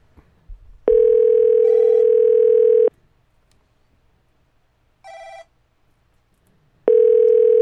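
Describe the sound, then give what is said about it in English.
A steady telephone dial tone sounds for about two seconds, then returns near the end, with short electronic beeps of a phone number being dialed on a keypad in between. Loud, with no talking. “Like you could tell what I was dialing anyhow.”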